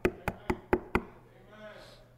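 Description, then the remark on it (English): Five quick, evenly spaced knocks on a door ring out, sharp and solid, then give way to a faint, murmuring background. “I returned that knock.”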